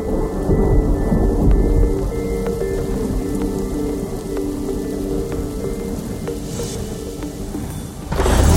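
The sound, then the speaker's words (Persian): Steady, heavy rain pours down continuously, with a deep rolling rumble of thunder underneath and scattered sharper drips and taps throughout. No voices are present. “بارون میزنه قلبم میشکنه”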